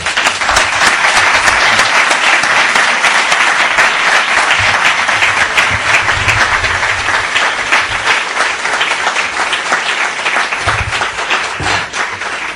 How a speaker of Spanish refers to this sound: Bien. Sin más, bueno, yo creo que a la intensidad del aplaudimetro que hace una conferencia bien recibida.